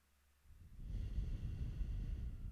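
A deep breath starts after a brief silence and flows out as one long, steady, airy exhale that continues to the end, with no voices.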